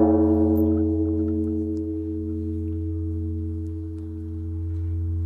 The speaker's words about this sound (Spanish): Estos son los monjes cantando y estos son los famosos gongs.